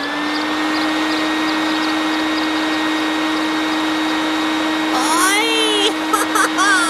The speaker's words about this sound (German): Er fliegt mit seiner Handwagenrakete am Mond vorbei bis zum Knopfstern. Und jetzt wirft Pitti zur Probe den Motor an.